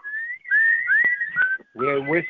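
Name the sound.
group of people whistling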